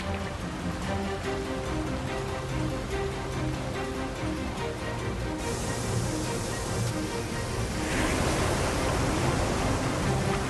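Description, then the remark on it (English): A steady, loud roar of rushing water and churning river ice as a large amount of ice breaks up and comes around a bend in the river, broad and continuous throughout, swelling slightly toward the end, with no voices. “That is a serious amount of ice coming around the corner.”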